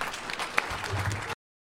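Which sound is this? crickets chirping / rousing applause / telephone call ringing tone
rousing applause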